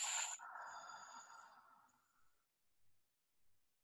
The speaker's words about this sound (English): You're going to expand your rib cage. You're going to take that breath and put it all the way in your body. And then simply exhale.